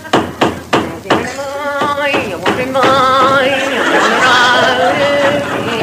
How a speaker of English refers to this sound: No, I think I'll stop here for the night. I could put my tent up in your way. Now, where's me hammer? I'll start banging the pegs in.